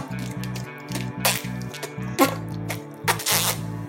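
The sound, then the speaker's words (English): A voice imitating a lobster fart makes three short, hissy, spluttering fart-like bursts, spaced about a second apart, over a steady, pulsing background music track. “And I think a lobster too is like this.”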